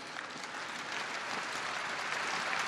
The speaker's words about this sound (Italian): E l'applauso della gente di San Pietro è stata la testimonianza della commozione spontanea, genuina, profonda, sottolineata dal suono delle campane di tutto il mondo.